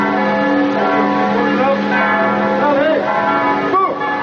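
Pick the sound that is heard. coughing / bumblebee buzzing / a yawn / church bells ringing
church bells ringing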